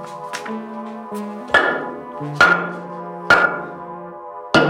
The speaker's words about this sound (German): Schlag das Brikett doch ganz auseinander, dann sieht man, wie groß sie ist. Gib mir den Hammer rüber.